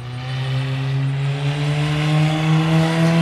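A race car engine drones steadily on the track during practice as the driver finishes his final set of laps, its tone climbing slightly as it accelerates, loud with no voices over it.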